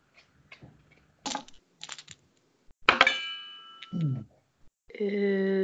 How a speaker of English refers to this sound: I hit my thermos with the thingy, with the dice. Sounded like you were strumming something, which I know is an impossibility.